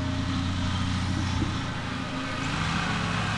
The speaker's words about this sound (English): That engine you're hearing is landscapers. Doing interviews in the age of COVID comes with all sorts of outdoor sounds.